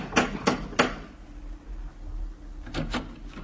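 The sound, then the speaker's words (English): A brass lion door knocker on a brownstone on 93rd Street strikes three sharp, evenly spaced raps, falls silent for a moment, then knocks again in a second quick burst of three, loud and hard-edged, with no voices. “Third name now, and address, a little further uptown, 93rd Street, brownstone and door knocker of brass lion.”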